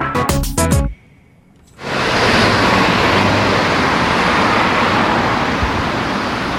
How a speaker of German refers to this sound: Er ist omnipräsent, vor allem in der Stadt. Der Lärm, den Auto, Lieferwagen, Bus, Lastwagen machen. Und das ist verständlich, das stört einige Leute.